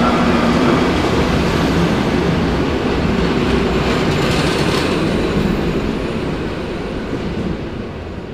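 A train departs from the main station, rolling along the rails with a loud, steady rumble and dense rattling that gradually eases slightly as it moves off; no voices are heard.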